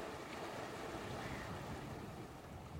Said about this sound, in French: Le chant des vagues qui se brisent sur le rivage.